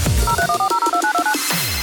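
A quick run of touch-tone dialing beeps, about ten short paired tones in a steady rhythm, played clearly with no talking over them.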